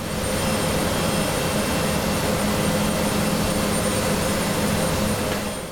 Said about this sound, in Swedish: Men om du spelar in till exempel en pappersmaskin på ett pappersbruk idag, så är det ju bara ett konstant vrål.